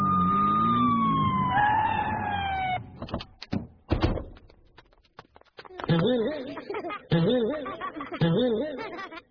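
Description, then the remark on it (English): A police siren wails and drops in pitch as police car 44 pulls away, headed for Beale Street to an unsafe trampoline call, over the first few seconds, followed by a door thud and some clattering, then voices. “Car 44, proceed to Beale Street. Unsafe trampoline in progress.”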